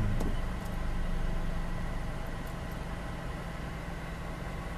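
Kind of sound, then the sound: vehicle, car idling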